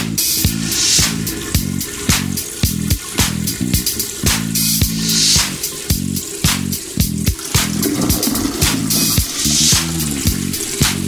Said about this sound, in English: Sounds like a toilet flushing.